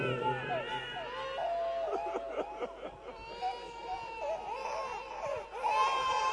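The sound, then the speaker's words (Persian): A baby cries in sustained, rising and falling wails that continue through the whole stretch, fairly loud, over a faint background murmur, during a poetry recitation. “این بچه امشب با شعر من داره میره جلو.”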